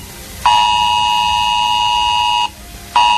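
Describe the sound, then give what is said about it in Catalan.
A loud, harsh electronic alert tone from a mobile phone emergency warning, sent by the new civil protection alert system during a test drill in the Barcelona metropolitan area, Catalonia, blares steadily for about two seconds, pauses briefly, then starts again, with no voices. “I atenció a aquest so que sentirem ara, perquè gairebé 5 milions de catalans rebran dijous aquest avís al mòbil.”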